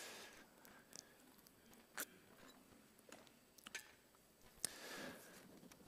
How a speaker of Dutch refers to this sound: Even een slokje naar al dat gelezen.